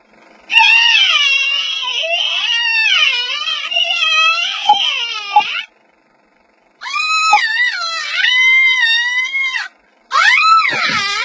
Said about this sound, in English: you scream.